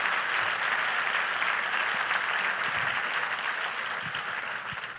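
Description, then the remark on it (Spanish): An audience applauds steadily for the full five seconds, a dense, even wash of many hands clapping at a constant, fairly loud level with no voices rising above it. “Si ese es el aplauso, dáselo mejor al Señor.”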